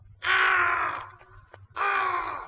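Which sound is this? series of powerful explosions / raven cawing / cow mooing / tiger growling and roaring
raven cawing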